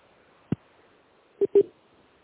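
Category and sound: signal or alarm, telephone keypad dialing tones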